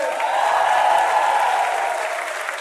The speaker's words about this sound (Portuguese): Muito obrigado, palmas pra vocês, aê!